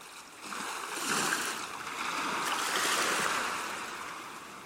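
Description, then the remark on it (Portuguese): Sea waves lap and wash steadily, the broad hiss swelling and easing in slow surges at a moderate level, with no voices; the sea as seen from a small rented house. “Vejo o mar de casa.”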